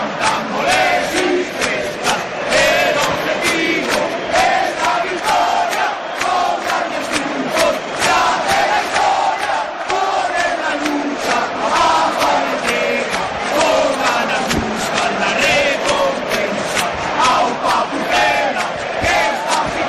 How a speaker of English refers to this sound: the Real Valladolid club anthem belted out from speakers around the stadium, and the crowd recited every word. This created a wall of noise which would have left the hairs on the back of the neck of the most cynical onlooker standing on end.